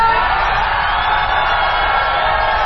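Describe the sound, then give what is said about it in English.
A large audience yells and screams as loud as it can after a host on stage asks how loud they can yell. A dense, sustained roar of many voices that stays loud and steady throughout without any pause. “What we're going to do now, how loud can you yell?”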